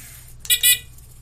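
Two short, high-pitched whirring bursts from the weak motors of Meep, a small robot developed at a help desk, as it rolls around, the second slightly longer, over a faint steady low hum.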